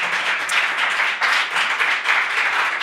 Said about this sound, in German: Danke, das war mein Applaus, oder? Ja, ich merk's gerade.